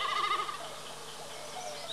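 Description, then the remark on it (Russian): A common snipe drumming high in a blue sky as it dives, its vibrating tail feathers making a quavering, bleating hum like a lamb, wavering rapidly and fairly faint, with no voices present. “Слышите, словно барашек блеет.”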